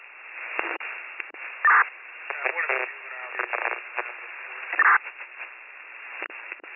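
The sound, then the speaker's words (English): A narrowband radio transmission full of crackling static, with garbled, unintelligible voice fragments breaking through and two sharp, loud bursts of noise. “The last transmission was all static.”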